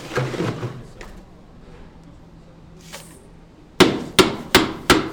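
Four sharp, heavy blows strike in a steady rhythm near the end, each a loud crunching thwack, like a mallet pounding ice, after quieter clattering and faint background noise.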